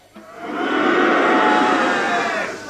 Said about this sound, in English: I want everyone to boo and hiss. Understand me? Right, we're gonna have a little rehearsal just so we know what we're doing, right? So just the balcony only, please, booing and hissing.